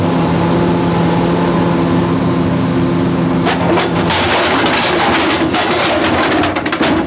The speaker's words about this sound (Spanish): Una pausa en la que no se escucha otro ruido que el motor del carro blindado. Luego, los faros de la patrulla se encienden por tercera ocasión. El policía que controla el camión blindado acelera.